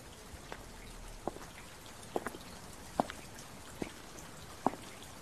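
Water from Lake Constance splashes from a fountain: a steady, soft watery hiss broken by half a dozen distinct drips and splashes at irregular intervals, with no voices.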